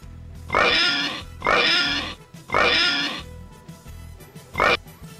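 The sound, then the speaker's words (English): Three loud, drawn-out pig oinks in a row, then a shorter fourth squeal after a brief pause, clear with no talking. “Is that a quarter oink? Oh, it was a half. It was a half oink.”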